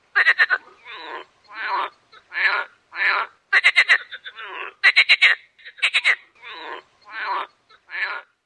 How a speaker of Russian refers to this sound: В озере лягушки громкие квакушки.